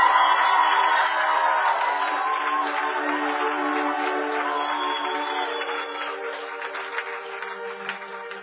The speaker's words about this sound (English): Can we give the Lord a shout of praise?